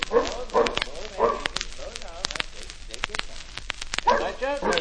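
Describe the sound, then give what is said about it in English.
A large, lion-like dog, too big to keep in a store, barks in a few loud, deep bursts, pausing in between, with scattered clatter and noise filling the gaps before a final cluster of barks. “A dog that looks like a lion.”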